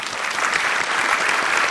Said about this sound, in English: And thank you all so much for sharing. Let's give her an applause.